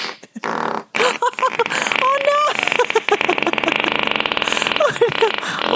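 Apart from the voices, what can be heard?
fart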